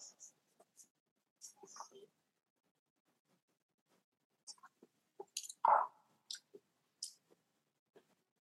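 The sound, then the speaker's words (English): Quiet sips of a tequila drink: short slurping bursts and small wet mouth clicks scattered over a few seconds, with a slightly louder slurp near the end and silence between. “Let's get in the sip of this bad boy.”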